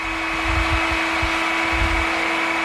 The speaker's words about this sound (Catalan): Doncs bé, fins a les 9, ja el sento de fons que entra el camió de les escombraries.